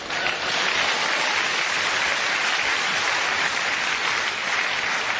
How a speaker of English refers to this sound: Clap.